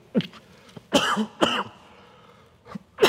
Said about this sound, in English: Excuse me. Nothing like an amplified cough.